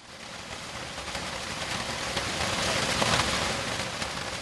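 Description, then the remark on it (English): Heavy rain pours down in a steady, dense hiss that holds for the whole stretch, with a fine crackling texture and slight swells in loudness, and no voices. The rain is falling in the village of Kaikai in northern Cameroon. “Heavy rains have been pouring ceaselessly, destroying houses and farms in the northern Cameroon village of Kaikai over the past 2 weeks.”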